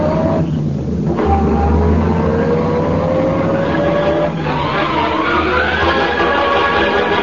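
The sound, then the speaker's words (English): A car engine roars loudly and revs up, its pitch climbing through a couple of gear shifts as the vehicle accelerates away. No voices. “Get this crate going, quick.”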